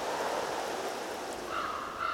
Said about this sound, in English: And the shifting tide, reminding us of the celestial ballet.